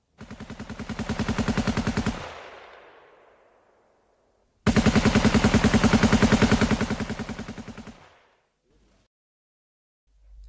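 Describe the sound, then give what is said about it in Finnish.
Two long bursts of rapid automatic gunfire, loud, each a steady rattling stream of shots followed by a fading echo, with a short silence between them and no voices; shooting in Helsinki, Finland, in April 1918 as German troops advance on the city. “Mutta saatiin kuulla, että saksalaiset etenevät kohti Helsinkiä ja rupesi sitten kuulumaan myöskin ammuntaa.”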